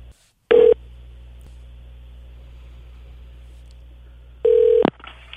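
Two bursts of a telephone ringback tone sound over a phone line, as a call is placed from a studio, about four seconds apart, with a low steady hum between them and no one speaking.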